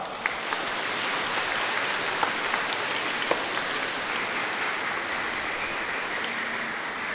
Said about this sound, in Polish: Witamy bardzo, bardzo serdecznie. Brawa!